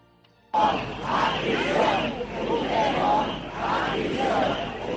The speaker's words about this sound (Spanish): Los gritos de Puigdemont a prisión han sido protagonistas hoy, también las banderas de España y, por supuesto, las de la Unión Europea.